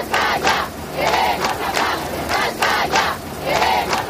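protest crowd chanting slogans

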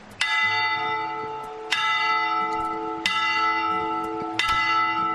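church bells ringing

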